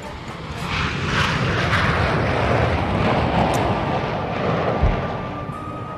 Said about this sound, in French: Concorde, voici un sublime oiseau qui prit son envol il y a maintenant 28 ans dans le ciel toulousain et qui continue à servir les rêves les plus fous.